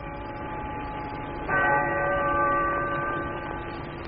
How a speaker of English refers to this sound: The bells of the bombed Cathedral of Coventry, striking 2 on the afternoon of this Christmas day, sound the greetings of Britain to the world.